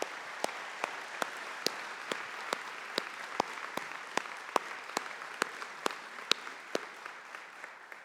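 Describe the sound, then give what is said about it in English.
An audience applauds steadily for several seconds, a dense wash of clapping with sharper, evenly spaced claps standing out on top, fairly close and without any talking. “You got to give this round of applause.”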